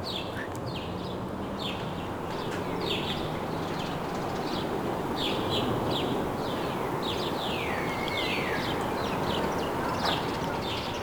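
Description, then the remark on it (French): Many birds chirp and twitter continuously in quick, overlapping bursts in a city park, over a steady low hum of city traffic. “et des myriades d'oiseaux.”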